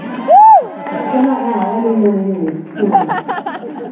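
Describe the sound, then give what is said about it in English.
A concert audience cheers and whoops for an encore after a song, with one loud rising-and-falling shout near the start over steady crowd noise, then rapid scattered clapping breaks out in the last second or so. “If you clap, we might go back.”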